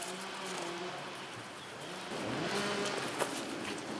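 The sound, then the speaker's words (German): Chainsaws cutting beech trees in a valley inside a national park drone steadily, a buzzing engine tone that rises and falls in pitch over a constant hiss, with a brief sharp knock near the end and no voices. “Immer näher kommen wir den Kettensägen.”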